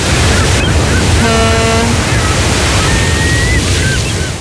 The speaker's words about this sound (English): Seagulls are mighty, aren't they, really? Noisy little things too, aren't they?